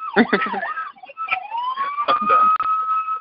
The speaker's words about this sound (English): I'm getting distracted by sirens. I can't. Sorry.